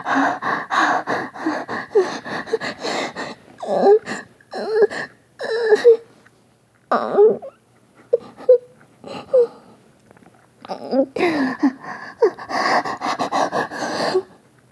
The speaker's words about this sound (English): I'm breathing fast and steady.